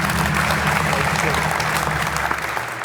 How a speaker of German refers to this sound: Euer Applaus.